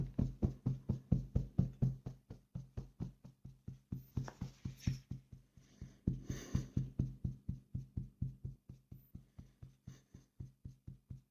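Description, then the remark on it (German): Steady, rapid fingertip tapping with both hands, a continuous train of soft knocks at an even rhythm for several seconds, with no talking. “Mit beiden Händen, mit den Fingerkuppen klopfen,”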